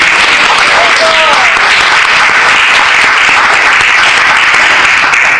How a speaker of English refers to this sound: She's one of the leaders here. So please give her a round of applause.